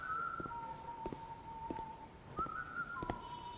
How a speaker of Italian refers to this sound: Qualcuno mi guarda male perché sono allegro e fischietto. Non si può ostentare troppa felicità in ospedale, non è educato. Ma io me ne frego. E fischio più forte.